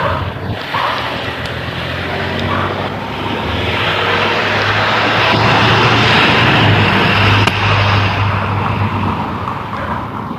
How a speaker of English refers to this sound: Two trucks.